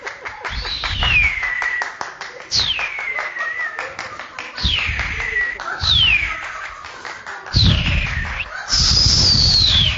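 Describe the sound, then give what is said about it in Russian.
A person whistles a series of about six sweeping downward glides, imitating the air stream whistling in a flying eagle's ears, with rapid clapping or tapping running underneath and a final higher, sustained whistle. “Это, наверное, в ушах его свистит так поток.”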